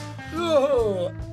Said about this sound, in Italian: Cosa sta succedendo in studio? È la mia gola, sto schiarendo la voce, sai.